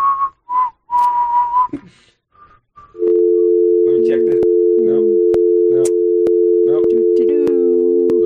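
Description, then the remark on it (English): A telephone busy signal: a few short, high electronic beeps, then a loud, steady low tone that drones on to the end while a man talks over it. “I think the phones are broken”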